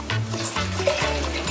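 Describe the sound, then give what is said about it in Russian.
One glass of water pours steadily into a hot cooking pan, hissing and sizzling loudly with a broad, continuous splash for the whole moment, no voices present. “Добавляем один стакан воды.”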